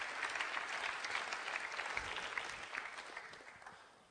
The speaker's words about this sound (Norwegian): Da gir vi henne en applaus. Ja? Takk skal du ha.